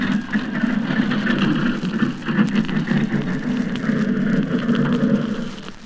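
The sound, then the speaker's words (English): A tractor chugs steadily as it pushes a tram along rails the last few yards until it sits opposite another tram, its low engine rumble constant under a noisy mechanical wash, easing off slightly at the very end. “And now a tractor pushes this other tram the last few yards until it's dead opposite the one that's going to be burnt this morning.”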